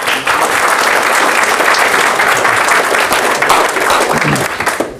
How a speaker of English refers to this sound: Give him a round of applause, huh?